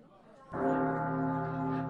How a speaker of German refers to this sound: Oh, ich glaube, die Stunde hat geschlagen. Der Nachtwärter läutet bereits die Nachtstunde ein.